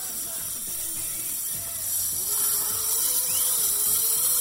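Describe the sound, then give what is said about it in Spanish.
A dental drill whirs steadily with a hissing water spray, continuous, its whine wavering slightly in pitch and growing a little louder halfway through, as it is used to remove excess dental cement. “Lo primero, quitar excesos de cemento. Vale, muy bien. Venga, vamos allá. Ruido y agua.”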